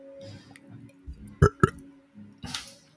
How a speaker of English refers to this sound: Burp. I have some Jarba. Jarba mate. Carbonated ones, so I'm like burpy.